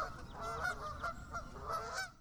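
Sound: flock of geese honking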